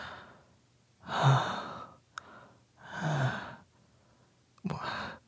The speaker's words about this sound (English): What do you mean I'm a panting, drooling mess?